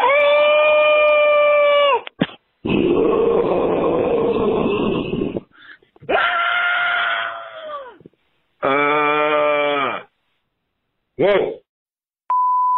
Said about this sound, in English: Ah! Help! Help! That'll be a good scream.